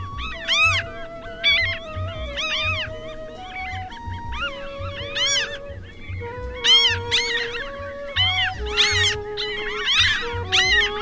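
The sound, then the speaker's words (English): At sunrise, a flock of ring-billed gulls keeps up a dense, overlapping chorus of shrill, mewing calls that rise and fall in pitch, carried over a steady low rumble for the whole stretch. “They're ring-billed gulls, and sometimes at this hour of the morning you get the sun reflected on them.”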